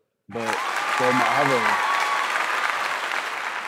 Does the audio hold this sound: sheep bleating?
no